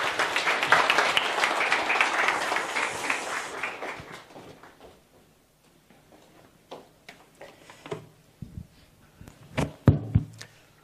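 A crowd bursts into dense, loud applause welcoming Chairman Tanaka Tomihiro to the stage to give a talk; it carries for several seconds, then thins out and fades, leaving a few scattered knocks and shuffling sounds.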